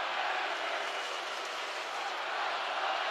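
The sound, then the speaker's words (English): A packed basketball arena crowd chants and roars, a dense, steady wall of voices that stays loud and constant throughout, with no single speaker standing out, during a game with Wisconsin leading 61-56 and 4:45 to play. “And now it gets a little spicy in the crowd.”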